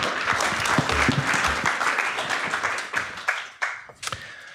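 An audience applauds loudly for a woman coming onto the stage for an interview, with dense, continuous clapping that thins out toward the end into a few scattered, sharper claps.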